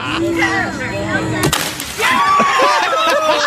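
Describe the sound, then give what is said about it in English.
A diving board snaps as a heavy man jumps on it, with one loud, sharp crack and a few splintering pops, cutting through excited voices that then rise into his friends' cheering and shouting. “Then there's the one time that the heavy guy does on the diving board and it breaks.”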